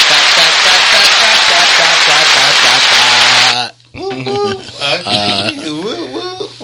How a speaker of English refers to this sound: So right now, we about to get into this team building. Everybody clap it up.